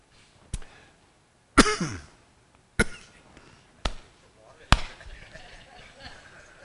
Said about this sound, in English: I thought I was going to get through the whole sermon, Jensen, without one cough.